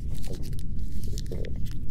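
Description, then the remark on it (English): Wet chewing of a piece of paper crunched up into a ball, with irregular crunchy bites and soft crinkling repeating steadily over two seconds, no voices. “Now eat that piece of paper.”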